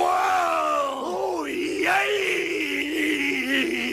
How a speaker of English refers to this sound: So it's him and Lord Alfred, and it's just the Bushwhackers screaming directly into the camera.